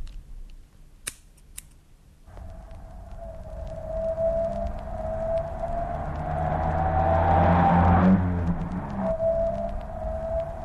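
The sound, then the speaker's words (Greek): A few sharp clicks, then a car engine starts rumbling with a steady droning hum that gradually swells louder before easing back slightly near the end. No one speaks. “Το αυτοκίνητο, πάλι τα ίδια.”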